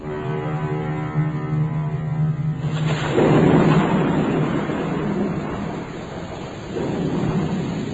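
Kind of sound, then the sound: nature, thunderstorm with rolling thunder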